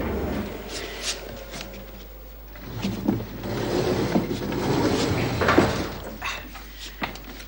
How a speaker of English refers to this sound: Now, I have sent the elevator down one floor. I'll pry the doors open, and then we'll load the couch on top of the elevator.